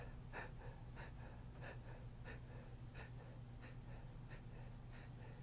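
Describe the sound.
A person demonstrates restricted breathing with a very small tidal volume: quick, short huffs repeating at a steady, fast rhythm, fairly quiet over a low hum, sounding almost like panting.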